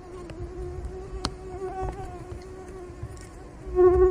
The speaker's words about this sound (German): Da kontere ich jetzt mal mit einem Geräusch, das wir schon hatten, nämlich dem Surren der Mücke.